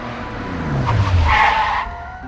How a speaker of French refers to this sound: Il entend soudain le bruit d'une voiture freiner brutalement en bas de l'immeuble.